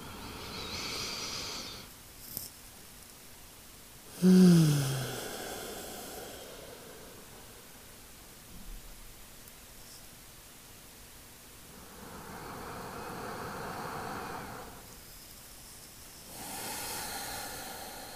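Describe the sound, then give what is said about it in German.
Three slow, deep breaths drawn deep into the belly and chest, airy rushes spaced a few seconds apart with quiet pauses between, soft, with no talking. “nimm dir einfach jetzt diesen Moment, um ein bisschen bewusster zu atmen, den Fokus auf deinen Atem zu lenken, mit mir gemeinsam tief in den Bauch, in den Herzraum, Brustraum zu atmen für 3 Atemzüge.”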